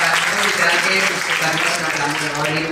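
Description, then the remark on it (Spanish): An audience claps steadily throughout at the end of a live talk, a dense and fairly loud burst of applause, with some voices mixed in underneath. “Gracias a todos por venir a la charla. Un aplauso.”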